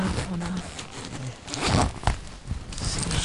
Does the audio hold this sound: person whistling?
no